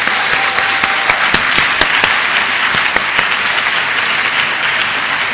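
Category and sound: crowd, audience round of applause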